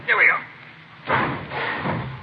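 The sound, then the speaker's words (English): A garage door is hauled open on a chilly day: a sharp clunk, then a noisy, rattling rumble as it rolls upward in a couple of surges. “I don't want to hit you. Watch the door,”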